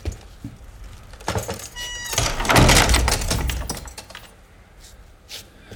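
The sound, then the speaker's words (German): A door swings shut, with creaking and a metallic rattle before a heavy, broad thud and a brief settling clatter. No one speaks. “Aha, dann schließe ich nun die Tür, ja?”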